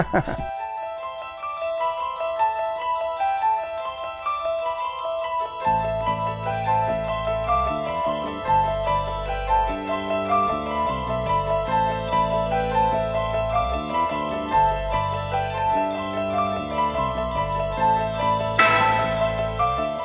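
Layered instrumental album music with a repeating bell-like keyboard melody over a steady bass line, over 1,000 overdubbed parts all played by one musician, stacked together at a moderate, even volume.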